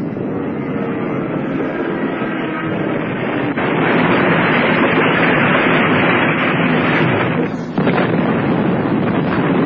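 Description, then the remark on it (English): A German bomber plane, having hit a barrage balloon cable and spun out of control, crashes close by onto a fishing jetty and explodes in a loud, dense roar of rumbling noise that surges heavier partway through, briefly breaks near the end, then keeps thundering on. “It's going to crash close by. Here it comes.”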